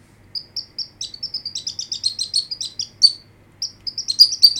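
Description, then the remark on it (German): A hand flute played by a sound-effects artist whistles bird-like chirps: quick, high twittering notes in a steady flurry, some doubled and trilled, clear with no voices, over a faint low rumble. “Eine Handflöte als Vogelgezwitscher.”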